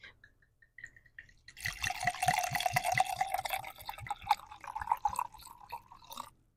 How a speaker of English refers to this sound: Okay, let's pour it up. Say when.